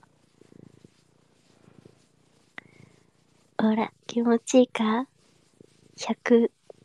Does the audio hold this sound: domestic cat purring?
yes